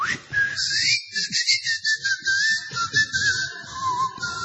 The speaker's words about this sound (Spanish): Yo, por ejemplo, en mi casa ya no tengo cerradura. ¿Ah, no? No, sino que... ¿Con el dedo? No, con mi voz, como usted le acaba de decir. Ah, con la voz. O mi voz, o con mi chiflido.